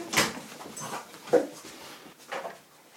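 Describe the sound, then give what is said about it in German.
A dog pants in quick, breathy bursts with a few short whimpers mixed in, moderately loud and in the background. It is excited because a visitor has arrived. No one talks over it. “Falls ihr euch wundert, warum es laut im Hintergrund hechelt, das ist kein Perverser. Das ist einfach nur mein Hund, der sich immer sehr freut,”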